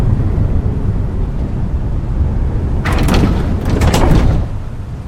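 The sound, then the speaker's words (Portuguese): The rear doors of vans on a ferry deck unlatch and swing open with a few sharp clanks and scraping rattles over a steady low rumble, fairly loud, with no voices. “As portas traseiras das vans se abrem.”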